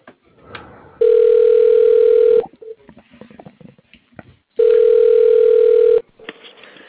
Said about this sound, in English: phone system's fucked up. That's why it rings.